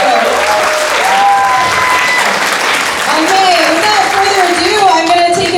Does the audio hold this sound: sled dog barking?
no